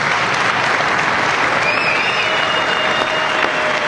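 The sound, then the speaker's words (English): A large crowd applauds and cheers in the House chamber in Washington on a Tuesday night, a dense, steady roar of clapping with a few whistles rising above it, sustained and loud throughout. “In Washington on Tuesday night, her father raised her up in his arms as the House chamber erupted in cheer.”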